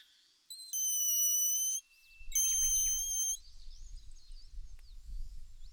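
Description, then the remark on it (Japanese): A grass whistle blown on a foxtail blade gives two shrill, reedy, sustained squeals, each about a second long, with a low rumbling noise beneath the second one and continuing after. “スズメの鉄砲。 草笛です。”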